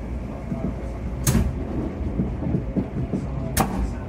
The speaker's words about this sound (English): So against the backdrop of a 700, that is the pantograph. That's the bit of equipment that draws the power from the overhead power lines. And on the overhead power lines, there's 25,000 volts AC traveling through that.